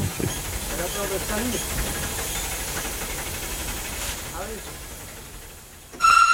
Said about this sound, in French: Oui, c'est ça, puisque ce 12 décembre, le dernier train à vapeur quitte la gare de la Bastille, fait son dernier trajet.